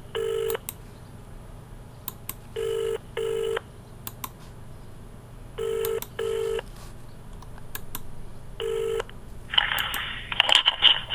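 A telephone ringing tone repeats in steady double pulses about every three seconds, clear and fairly loud, then stops as a burst of rustling noise follows, suggesting the call being answered.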